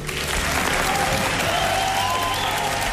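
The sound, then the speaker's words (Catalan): Steady audience applause for a horse fills the whole stretch, a dense wash of many hands clapping with no pauses and no voices rising above it. “No, no, no, a veure, un aplaudiment pel cavall, sisplau.”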